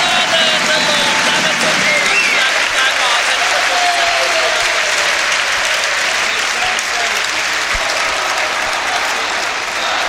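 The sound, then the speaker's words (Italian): A standing crowd at the Palamano sports arena applauds Givova steadily, dense clapping filling the whole stretch at a loud, even level with a few faint whistles and cheers riding on top. “Pubblico in piedi qui al Palamano ad applaudire a Givova.”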